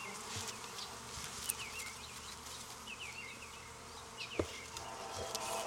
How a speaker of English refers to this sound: I've got a bee in my bonnet and she is crawling in my ear, and that is not a good scenario. You don't want that bee, I got her out.